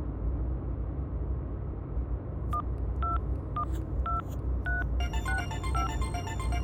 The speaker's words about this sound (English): Is that a recorder? Do I have to record a message? No, that's a hailing signal.